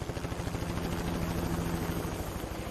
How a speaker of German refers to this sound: Fangen wir mit der wohl spektakulärsten Methode an. Anlieferung per Helikopter.